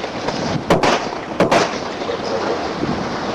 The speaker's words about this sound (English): Bunch of shots here. The whole incident was caught on video. A warning here, this sound here is pretty violent.